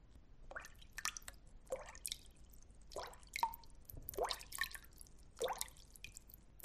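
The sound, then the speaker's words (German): Fingertips snapping into water as if grabbing something beneath the surface, making a series of small plops and splashes at irregular intervals, about six or seven in a row, fairly quiet with no talking. “So klingt das Wasser, wenn man mit den Fingerspitzen in das Wasser schnappt, so als ob man unter der Wasseroberfläche etwas greifen möchte.”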